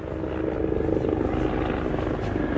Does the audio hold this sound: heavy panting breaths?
no